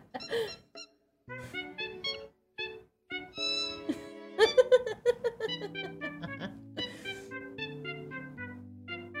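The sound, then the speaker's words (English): A bird whistles a jaunty, tuneful melody of clear pitched notes in steady rhythm, mimicking the Wii music, fairly loud with no talking. “That's a very talented bird.”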